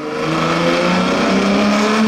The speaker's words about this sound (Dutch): Ik weet nog dat hij zo'n Ferrari, we kunnen wel even laten horen. Dus even een Ferrari 250 Tour de France.